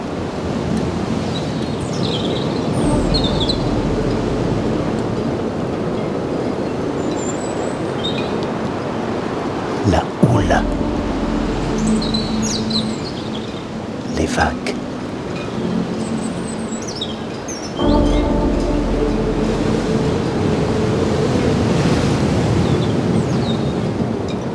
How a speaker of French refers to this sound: Des falaises emplies de végétation et de rochers granitiques. couvert de lichen. Plonge dans l'océan. Du vent, un oiseau.